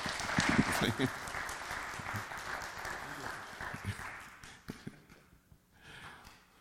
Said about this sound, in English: We're grateful for all that they do as we share in our ministry to do the Lord's will here at First Church and in our communities. So please extend your appreciation with a round of applause.